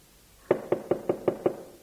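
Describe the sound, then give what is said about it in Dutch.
Six firm knocks on a front door late in the evening, in a quick, even rhythm, each a dull, solid thud, with quiet before and after and no voices. “Oh, klopt. Een stem. Doe eens open.”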